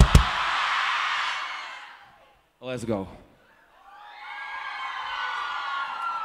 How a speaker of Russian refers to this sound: Тогда давайте для того, чтобы мы все начали, на счет три, все вместе крикнем фразу «Оба». Готовы? Раз, два, три.